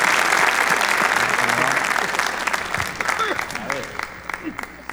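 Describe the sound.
An audience breaks into loud, sustained applause given to God for the life of a guest, dense clapping that gradually thins toward the end, with a few voices and cheers mixed in.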